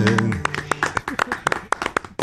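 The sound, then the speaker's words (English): A few hands give a soft, polite golf clap, a steady run of light claps for about two seconds, with a brief voiced hum at the start. “It'll get a golf clap from us every single time.”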